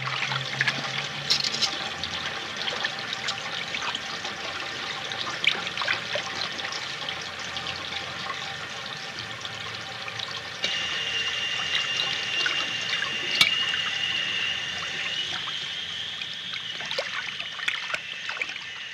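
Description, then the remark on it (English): A woman washes dishes in the film Jean Dielman: running water splashes steadily into a sink, with scattered clinks and clatters of dishes. The flow grows a bit brighter and louder partway through; no one speaks. “Take a listen to her washing dishes to really get a sense of how this film sounded and felt.”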